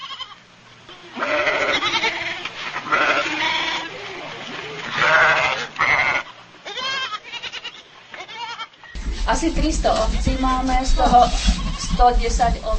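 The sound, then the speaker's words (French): Romanov ewes, a breed from Russia, on a farm in the Czech Republic with a flock of 300 ewes, bleat repeatedly in a series of loud, wavering calls, several animals overlapping, with a low rumbling background joining in partway through. “La ferme de Dagmar Havlova est la seule en République tchèque à élever les brebis de race Romanov, originaire de Russie.”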